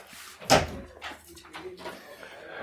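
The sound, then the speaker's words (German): A door is handled, with one sharp, loud thud as it shuts, followed by softer rattling and shuffling sounds. Faint voices murmur in the background. “Machen wir die Tür zu, auch? Die machen wir wieder zu, aber also.”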